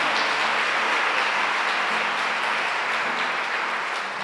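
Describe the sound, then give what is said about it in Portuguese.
An audience at a sermon claps steadily and loudly, giving a round of applause to God, a dense, continuous wash of many hands with no pauses, holding the same level throughout. “Dá mais uma salva de palmas a Ele.”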